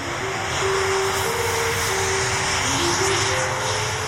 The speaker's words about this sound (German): Also das sind Windräder, die übertönen quasi den Sound der Musik. Das ist wohl sehr laut.